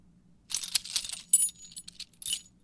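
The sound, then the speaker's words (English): Keys jangle and clink in several quick, bright bursts over about two seconds, metallic rattling with no voices. “Ah, it's your keys.”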